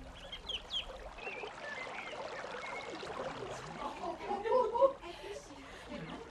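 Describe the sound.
A river outside the city gates of Philippi, a Roman colony in Macedonia, flows steadily, its water trickling and burbling at a moderate level throughout, while voices of people gathered there on the Sabbath for prayer and ritual ablutions murmur over the continuous watery wash.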